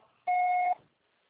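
A single steady electronic voicemail beep lasting about half a second, a clear pure tone with a faint higher harmonic, loud against a quiet background, signaling the start of a voicemail recording.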